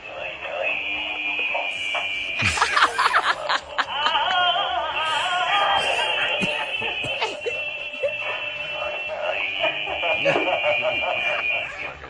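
A mobile phone ringtone for an incoming call plays: a steady high-pitched electronic tone with rapid warbling bursts and a giggling, tittering laugh woven through it, sounding loud and continuous for the whole stretch.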